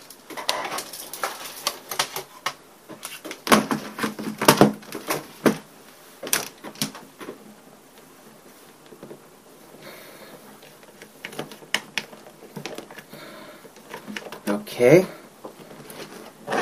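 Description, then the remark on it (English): Clattering and plastic bumps as a keyboard is handled, with scattered knocks and scrapes, then a sharper click near the end as a plug is pushed into a port. A regular Windows keyboard is plugged into the other USB port of a Mac. “And I'm going to grab a keyboard, and we're going to plug it to the other USB port.”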